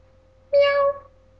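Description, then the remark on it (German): A single drawn-out meow, about half a second long, voiced by a person imitating a cat. It is clear, with quiet before and after. “Ich bin eine Katze.”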